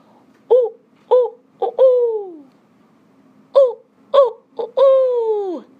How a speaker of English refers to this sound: An owl. Owl. Yeah, can you say owl?